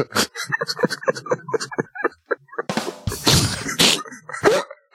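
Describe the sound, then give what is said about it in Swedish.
Voices speak briefly, then a button-triggered sound effect plays: a burst of loud clattering, like several cans being knocked over and tumbling in a quick, messy series of crashes. “Det lät som att man välte några burkar.”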